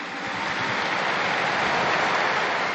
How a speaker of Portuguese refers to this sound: Un applauso a tutti i nonni, a tutti.